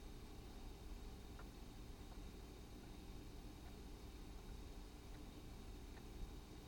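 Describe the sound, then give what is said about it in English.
A car engine idles outside, a steady low rumble that holds evenly throughout under a faint hiss with no voices. “just like the car outside there.”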